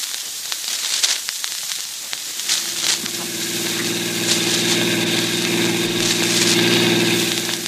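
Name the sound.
car engine running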